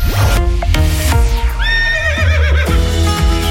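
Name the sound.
horse neighing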